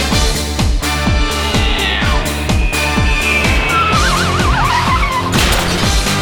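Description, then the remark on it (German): A car engine strains with a gearbox failure and tires screech in a loud skid, with a wavering squeal partway through, all over a steady pounding rhythmic beat. “Getriebeschaden.”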